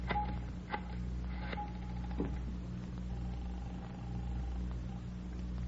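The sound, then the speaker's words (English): A telephone being dialed: a string of clicks and short tonal beeps over a steady low hum, moderately loud, with no one speaking. “Can I use your phone, Miss Waters?”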